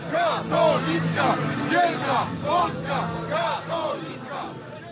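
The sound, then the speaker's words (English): A large crowd in Poland chants in loud, rhythmic unison against a newspaper, accusing it of promoting Islamic terrorism, LGBT rights and a transformation of Polish society. Voices rise and fall in repeated shouted phrases roughly every second, with an aggressive, menacing edge; police had to secure the building. “It's chanting about the paper promoting Islamic terrorism, promoting LGBT rights, promoting a transformation of Polish society.”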